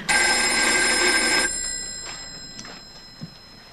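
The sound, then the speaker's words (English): A telephone bell rings in Jerry Reed's hotel room, loudly in one sustained burst of about a second and a half, then cuts off, leaving a quiet line with a couple of faint clicks. “They're ringing his room.”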